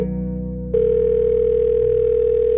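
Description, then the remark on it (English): A telephone rings with an incoming call from an unlisted number, a loud, steady electronic tone that shifts slightly in pitch just after it begins, then holds evenly throughout, with no voices present. “But just before everyone was ready to leave for the day, we received a call from an unlisted telephone number. Our new summer intern answered the phone.”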